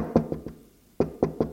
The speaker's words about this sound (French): Sa mère frappe à sa porte.